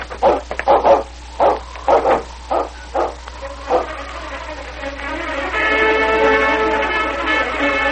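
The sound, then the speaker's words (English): A large malamute dog barks in a quick, excited series of about eight sharp barks, then falls quiet as a steady, sustained tone fills the rest. “Breaking the trail for Constable Hammond's dog, King was returning to the cabin where his master was held prisoner.”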